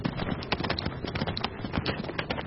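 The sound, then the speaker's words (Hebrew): Steady clip-clop of the hooves of two thin horses pulling a rickety wagon, a continuous uneven patter of many quick hoofbeats on a hard surface at moderate loudness. “וכך ישבנו, כל בני משפחתי, ימים ושבועות בתוך עגלה רעועה, רתומה לשתי סוסים, כחושים, מתפללים ומקווים לישועת השם.”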